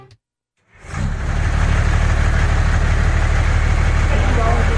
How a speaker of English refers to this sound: Hindi magsisimula ang araw ng mga taga-barangay Netra 2 sa San Mateo Rizal hanggat hindi pa dumarating ang truck na ito. Sa truck na ito kasi nanggagaling ang magiging supply nila ng tubig para sa buong araw.